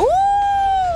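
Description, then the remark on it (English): A child's voice imitates a wolf howl: one loud, high-pitched sustained tone that swoops up quickly, holds steady for about a second, then sags slightly at the end. “Wolf? Oh, a wolf.”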